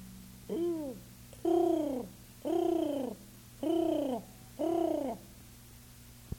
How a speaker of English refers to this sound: Pigeons.